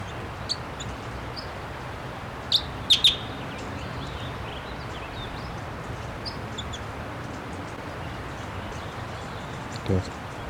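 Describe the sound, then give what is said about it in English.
A wild bird, being recorded, gives a few short, high chirps in a quick cluster, with a couple of fainter peeps elsewhere, over a steady rustling background hiss. “The wild bird just flew. Real close.”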